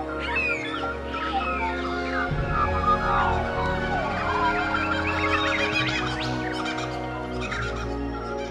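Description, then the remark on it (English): A dawn chorus as the sun comes up: many birds sing and chirp at once in a dense, overlapping chorus, with varied calls layered continuously at moderate loudness over a steady low background hum. “We call this the dawn chorus because it sounds like a chorus of birds.”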